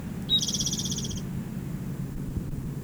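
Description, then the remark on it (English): A bird sings one high, rapid buzzy trill lasting about a second, then stops, leaving only a low steady rumble of background noise. “The same bird.”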